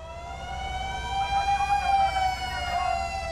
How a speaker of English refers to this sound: The government has developed a sophisticated earthquake warning system that can sound an alarm a few precious seconds before the most destructive waves of an earthquake hit.